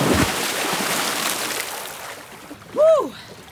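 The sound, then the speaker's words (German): Churning and splashing of water as a person plunges into a lake to cool off after a sauna, in rain, with the water at 16 degrees Celsius, fills the first couple of seconds, then fades and the person lets out a short, rising-and-falling yelp. “Und dann kommt das, was einfach dazugehört: die Abkühlung im See.”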